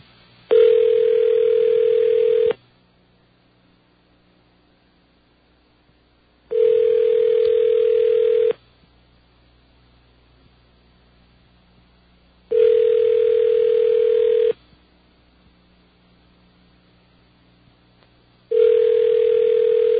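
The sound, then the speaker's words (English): A phone rings back unanswered: four steady two-second tones at a fixed mid pitch, each followed by about four seconds of silence, repeating evenly with no voice picking up. “He just doesn't answer.”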